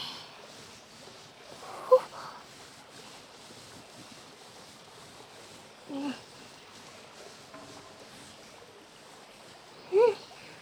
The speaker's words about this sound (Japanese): まずはしっかり泡立てて、いきますよ。よいしょ。もこもこの泡を頭全体になじませるみたいに。